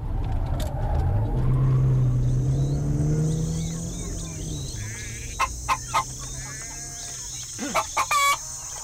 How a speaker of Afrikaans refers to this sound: Ek probeer om die dom hoender te leer, meneer. Maar hy sal nooit leer as jy hom al in die rondte jaag nie.